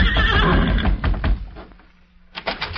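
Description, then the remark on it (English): Silver, the Lone Ranger's horse, lets out a loud, shaky neigh with a quivering high pitch, followed by a few hoof clops and a short lull before some brief knocking on the door of the judge's office. “Couldn't be two horses that sound the same.”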